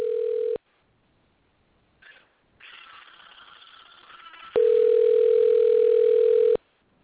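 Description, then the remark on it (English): A telephone ringback tone on the line: a steady, mid-pitched hum cut off early, then faint line hiss and rustling, then another loud, even two-second ring tone. “Can you hear it ringing? I sure hear it ringing.”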